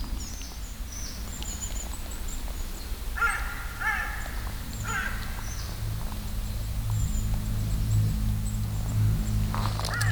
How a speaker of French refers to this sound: Peut-être que le corbeau effrayé par le son de l'avion.